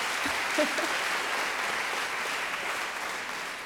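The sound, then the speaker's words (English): A crowd claps steadily, a dense wash of many hands applauding at an even level that tapers only slightly toward the end, with no one speaking over it. “Clap if you think this was Margaret Atwood.”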